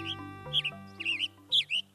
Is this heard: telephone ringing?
no